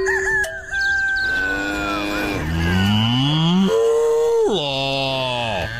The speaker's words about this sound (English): It sounds like that cow's saying something specific.